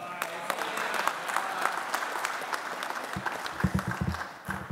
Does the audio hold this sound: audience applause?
yes